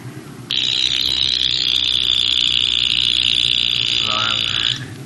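A watch alarm, set as a reminder to go to Kirtan, goes off with a loud, high-pitched electronic buzz that holds steady for about four seconds before cutting out, over a low background rumble.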